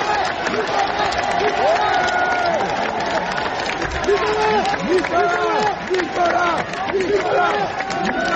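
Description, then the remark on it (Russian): Supporters applaud and cheer as a man leaves for prison in a luxury car: dense crowd noise with many overlapping voices calling and cheering amid scattered clapping, steady and loud throughout. “В тюрьму, куда его провожали красавица-жена, дети и внуки, он уехал в шикарном автомобиле под аплодисменты своих сторонников, которые сегодня же проводили в Париже митинги в его поддержку.”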